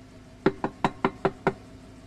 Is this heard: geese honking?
no